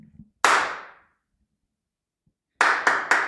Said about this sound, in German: Soll Alex direkt nach dem Klatschen losreden?